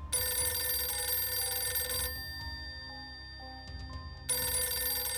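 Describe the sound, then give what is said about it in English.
An old-fashioned telephone bell rings in two long bursts, loud, with a short gap of quiet between the rings: a phone call to a town minister at his home. No one speaks. “After arriving home from a visit to comfort Lois, he received a phone call.”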